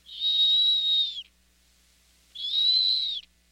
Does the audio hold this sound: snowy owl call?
yes